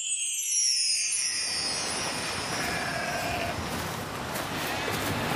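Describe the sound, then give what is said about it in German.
Sheep bleat across a pasture on an island in strong wind, wavering, nasal calls over a constant rushing wind hiss that fills the background throughout, with no one speaking. “Salzige Meereswellen klatschten gegen das Ufer und das Blöken von Schafen tönte über die Weide.”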